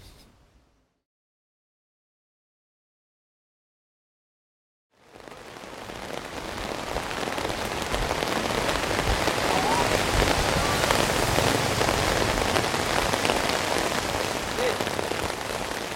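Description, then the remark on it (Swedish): After a brief near-silent stretch, heavy rain suddenly fills the scene, a dense, steady hiss and patter of drops striking surfaces, continuing loudly to the end. “Efter regnet sätter grodorna igång.”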